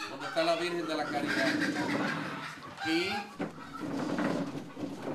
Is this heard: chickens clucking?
yes